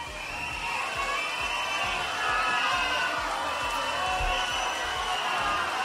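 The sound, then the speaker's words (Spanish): A large crowd boos and jeers continuously, a dense wall of many voices that stays loud and steady from start to finish, with occasional shouts rising above the din, as Spain's head of government Pedro Sánchez is received at the Escuela Infantil Casa de los Niños in Getafe. “Pedro Sánchez ha sido recibido entre abucheos.”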